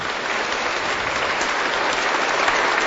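Steady, dense applause from an audience, a continuous crackle of many hands clapping at an even loudness throughout, with no voices standing out.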